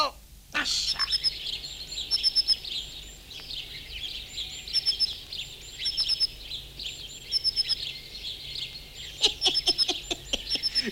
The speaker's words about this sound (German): Alle Vögel sind schon da. Alle Vögel, alle.